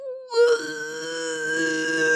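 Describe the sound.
A voice imitates a Keurig coffee machine percolating as the coffee comes out: a short blip, then a steady, buzzy, nasal drone held at one pitch for about two seconds, with no other talking.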